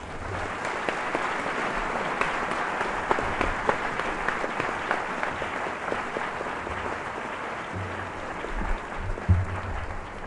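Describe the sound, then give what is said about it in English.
An audience claps steadily for about ten seconds to welcome a distinguished speaker to the stage, a dense, sustained patter of many hands with no voices standing out. “give him a big round of applause to welcome him here himself.”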